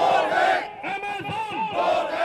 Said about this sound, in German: Doch an Delhis zentralem Platz, dem Connaught Place, ist der Protest dennoch laut.